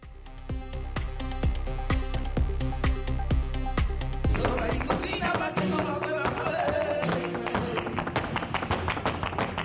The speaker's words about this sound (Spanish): Ya va quedando menos para que podamos escuchar este taconeo aquí en la capital navarra. Es que ya no queda nada para que arranque esa duodécima edición del Flamenco on Fire 2025.